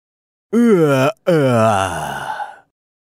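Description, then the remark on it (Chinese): A long, exaggerated yawn voiced by a person acting out the mythical beast Nian waking on New Year's Eve, rising and then broken by a brief pause before a drawn-out, sighing exhale that trails off. It is fairly loud, with no words. “到了除夕那天，年才会醒来，伸伸懒腰，抖抖毛，打一个大大的哈欠。”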